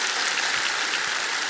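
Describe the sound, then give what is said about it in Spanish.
A church crowd claps steadily together in applause to the Lord, a dense, continuous wash of many hands applauding at a fairly loud, even level with no voices rising above it. “Dar un aplauso al Señor en la casa del Señor.”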